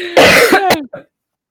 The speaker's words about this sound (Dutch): Je bent aan het hoesten. Ik denk dat je een testje moet doen.